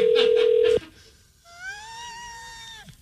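signal or alarm, phone call being dialed

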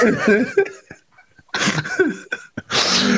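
human body sound, sneeze

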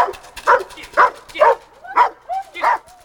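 animal, dog barking

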